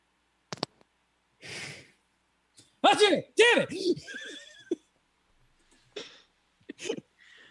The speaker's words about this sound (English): He's just up in his room sneezing.